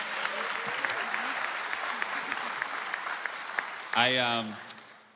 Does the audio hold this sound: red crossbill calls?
no